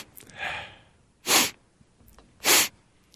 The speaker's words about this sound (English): Oh, my God. The sniff. Enough. Can't imagine hearing that for 4 more years. Do it like 4 more times.